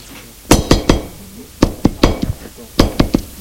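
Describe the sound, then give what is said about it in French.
Sharp knocking on a door in three bursts: three raps, a short pause, four raps, another pause, then three more. The knocks are crisp and fairly loud, with no voices. “On a frappé à la porte.”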